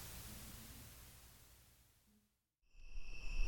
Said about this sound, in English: Night crickets, recorded from my front porch on the Zoom H1.